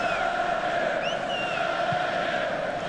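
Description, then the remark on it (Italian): A large stadium crowd of Swedish football fans chants in unison at a Sweden–Italy match, a steady, sustained roar of voices filling the space at an even loudness, with faint whistles rising above it. “E questa è la risposta invece dei tifosi svedesi.”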